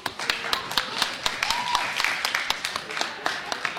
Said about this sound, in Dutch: Applaus voor hem.